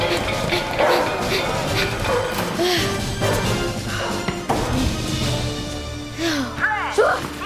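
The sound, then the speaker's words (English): Several dogs, just let out, bark and yelp excitedly and loudly amid thumps and clatter, with high whimpering cries near the end; a busy, chaotic scene. “They let the dogs out!”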